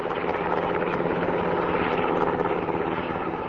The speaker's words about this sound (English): While using helicopters for habitat improvement is unusual, the National Guard says it agreed to the project because it gave flight crews a chance to train on more modern helicopters and practice raising and lowering supplies from and to the ground.